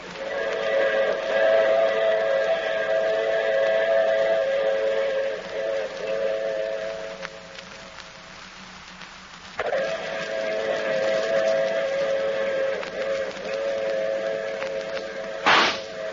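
A train sounds a long, droning whistle at a station platform that fades briefly, then blares again. Near the end comes a single sharp crack, with faint rumble underneath.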